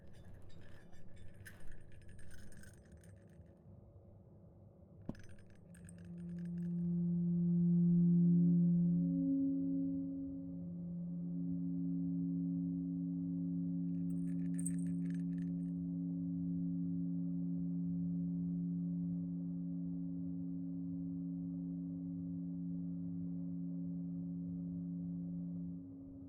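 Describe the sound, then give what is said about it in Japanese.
After some light metallic jingling, a bell is struck once and rings on in a long, low, humming tone that slowly fades, with a brief faint clink partway through. “鐘でゆっくりと癒していくからの。”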